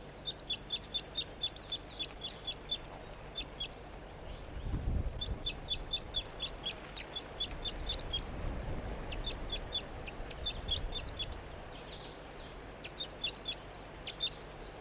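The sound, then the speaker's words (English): A juvenile wild bird sings from a perch in a tree, recorded from right underneath the tree, in rapid bursts of high, sharp chirping notes, loud and repeated in quick series with brief pauses, over a low rumbling background with no talking. “Rather loudly given, but I'm right underneath the tree that the bird is in.”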